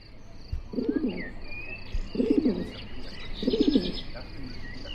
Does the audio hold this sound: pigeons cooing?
yes